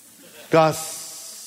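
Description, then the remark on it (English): A person hisses like a snake to show how the word gossip hisses: a short voiced sound, then a steady, breathy hiss that trails on for almost a second, moderately loud. “Have you ever noticed how the word gossip sort of hisses?”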